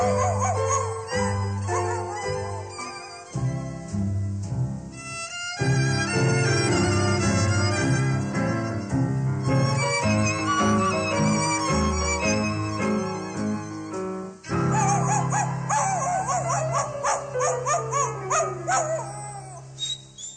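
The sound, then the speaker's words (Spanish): A dog with a toothache whimpers and howls almost continuously, loud, with drawn-out wavering cries and rising, sliding whines that grow more frequent toward the end, over a dense, full backdrop of sound. “Perrito le duele su muela. Y no quiero que al pobre le duela.”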